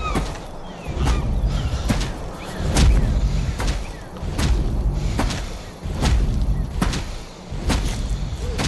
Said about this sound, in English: Here's a pretty different sound for monsters. This is Footsteps of the Monster Carol carrying the boy Max from the new 2009 movie Where the Wild Things Are.